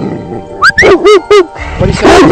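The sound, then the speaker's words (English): The dog Ranger lets out a quick series of four or five sharp, high-pitched barks and yips, loud, followed by a brief whiny vocal sound at the end. “I'm thinking maybe Ranger might need to still say hello. Ranger, come here.”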